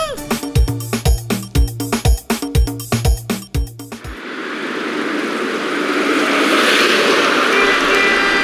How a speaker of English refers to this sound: Gosh, I hate driving at this time of day. This traffic is crazy.